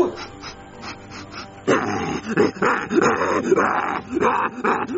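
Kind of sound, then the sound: animal, dog barking and attacking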